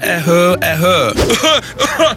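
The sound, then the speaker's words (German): A voice imitates an older man's dry, never-ending irritating cough: a string of strained, throaty hacks and groaning bursts, loud, repeating in uneven fits over a couple of seconds. “Erstens, der ältere Herr mit trockenem, nicht enden wollendem Reizhusten.”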